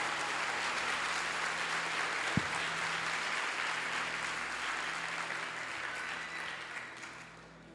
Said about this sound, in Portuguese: Aplauda mais forte. Isso.